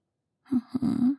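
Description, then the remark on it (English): A single voiced sneeze: a short catching breath, then a sharp burst that trails into a drawn-out vocal 'choo' before stopping. No talking alongside it. “Bless you, very comfy.”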